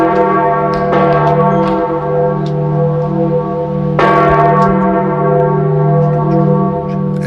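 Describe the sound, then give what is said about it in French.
The large, deep bell of Notre-Dame de Paris cathedral tolls slowly and loudly, 88 strikes at exactly 11 a.m. on a Monday in tribute to Pope Francis, fresh strikes about three seconds apart over a continuous, shimmering hum of overlapping resonance. No voices are heard. “88 coups de cloche à 11h précise ce lundi. La cathédrale Notre-Dame de Paris rendait un premier hommage au pape François dont on a appris le décès ce lundi matin.”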